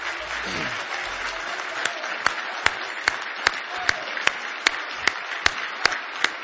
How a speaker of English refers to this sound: Now let's give the Lord a big hand clap of praise this morning.